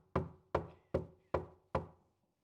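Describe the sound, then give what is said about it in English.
Five firm knocks on a wooden door in a steady, evenly spaced rhythm, fairly loud, each with a short resonant decay, followed by silence. “He's standing at the door and is knocking.”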